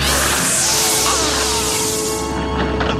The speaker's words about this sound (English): but another whip crack stops him.